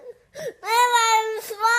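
A little Dutch girl cries loudly, a high, strained wail held for over a second after a short sob, then breaking briefly before the crying resumes.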